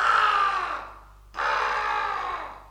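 A black raven caws twice, two long, hoarse, rasping calls separated by a short pause. The calls are loud, with nothing else heard around them.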